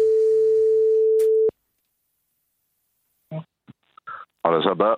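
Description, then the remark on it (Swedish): A single steady, buzzing telephone ringing tone from an outgoing prank call by the Swedish radio station Mix Megapol Göteborg to a carpenter's apprentice sounds for about a second and a half, then cuts off; after a pause, a voice begins speaking over the line. “Vi ringer en kille som har varit snickarlärling nu alla de timmarna.”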